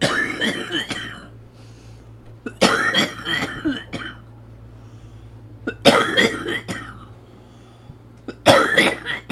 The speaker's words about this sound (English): Okay, it's just physical therapy. So what's happening is that the whole theory behind it is I'm pounding on his chest so that I can loosen all the thick mucus that he has more than you and I, and because he needs to cough it up.